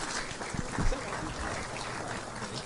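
An audience applauds steadily for Vicki Schmidt for a few seconds, a dense, even patter of many hands clapping at a moderate level with a few low thumps mixed in.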